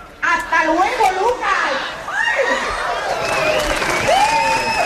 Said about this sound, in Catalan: ¡Bravo! Això que acabeu d'escoltar és un rècord mundial d'imitadors de Chiquito. Bravo, un aplaudiment pel rècord.